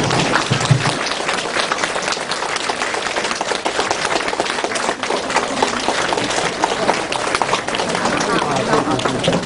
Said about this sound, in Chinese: 热烈的掌声欢迎我们的尊敬的卢台长，谢谢。